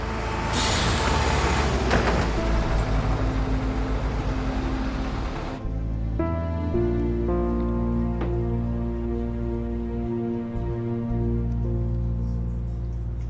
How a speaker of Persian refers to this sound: ببین اتوبوس هم اومد.